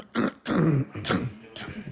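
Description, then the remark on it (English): A few rough, raspy throat-clearing bursts come in quick succession, fairly loud, with the last ones trailing off more softly. No talking is heard. “I'm never going to clear my throat.”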